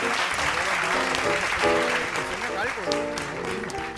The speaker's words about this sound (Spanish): Así que un fuerte aplauso para todas las madres. Oye, un aplauso.